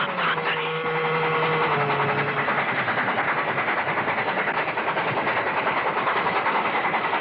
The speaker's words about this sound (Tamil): ரயில் நெருங்கிக் கொண்டிருந்தது.